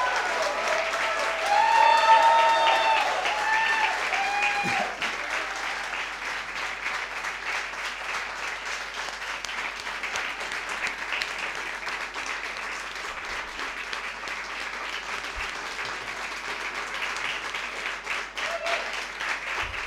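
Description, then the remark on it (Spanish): Sustained audience applause, a dense wash of many hands clapping at steady volume throughout, swelling slightly near the start with a few whistles or cheers mixed in. “Un aplauso para mí también, a los chicos.”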